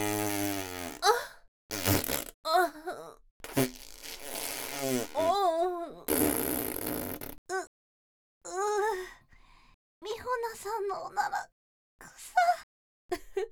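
A string of close, fairly loud fart sounds, some low and rumbling, others breathy and hissing, interleaved with a woman's sighs, gasps and drawn-out vocal moans with short silences between.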